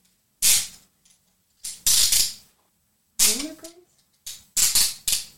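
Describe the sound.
Toy handcuffs ratchet shut tightly on a person's wrists behind their back in several crisp bursts of rapid clicking, with short pauses between them and a brief murmur of voice partway through.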